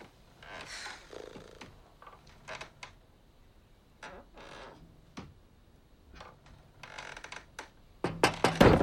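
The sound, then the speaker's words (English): A wooden chair at a kitchen table rocks back and forth as a woman leans back in it, giving a series of irregular creaks and soft wooden rubs, ending with a louder cluster of knocks and scrapes. “Leaning back in the wood chair, she rocks back and forth.”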